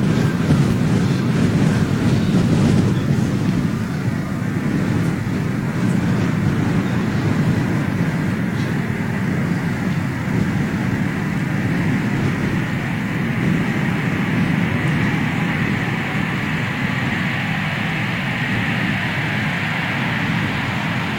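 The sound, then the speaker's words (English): A 787 comes in to land in Iceland through gusty crosswinds of about 25 knots gusting to 32, a loud, steady roar of wind buffeting and engine rumble filling the whole stretch with no voices. “Doing a crosswinds in about 25 knots, gusting to 32.”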